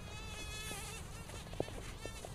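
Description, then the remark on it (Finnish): A queen bumblebee (konttukimalainen) buzzes inside an insect net, a continuous droning hum whose pitch wavers as it moves, with a couple of faint taps along the way. “Konttukimalaiskuningatar.”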